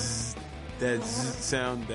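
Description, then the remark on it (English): A person makes a sustained, droning buzz with their voice, imitating a bee, with a hissing edge that rises and falls in pitch over about two seconds. “zzz sound that bees do.”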